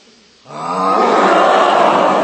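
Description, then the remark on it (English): After a moment of quiet, a group of about 60 people takes a deep breath in and lets out a loud, breathy 'lion breath' roar together, sustained and rough for about two seconds. “Okay, let's do a great big lion breath.”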